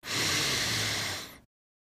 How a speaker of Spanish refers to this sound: Última, inhala profundo, todo lo que puedas.